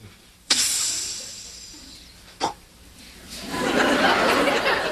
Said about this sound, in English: and the lake is so quiet, you just sit out there on a boat, and all you can hear is just the hiss of the line, is it? And then the bait hitting the water.